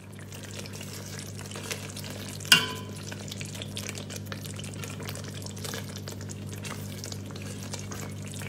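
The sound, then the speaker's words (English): Indo-Sichuan chili sauce crackles and sizzles steadily in a hot pan as food columnist Nick makes it, a dense hiss of tiny pops with a low hum underneath and one sharper clatter of stirring partway through; no one speaks. “Here you can hear the crackling sounds of Indo-Sichuan chili sauce that Nick is making.”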